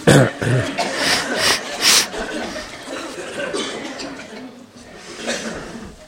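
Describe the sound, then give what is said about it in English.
Several harsh throat-clearing bursts come in quick succession over the first two seconds, as people clear their throats before a meditation, then give way to quieter, softer vocal sounds. “Clear your throat.”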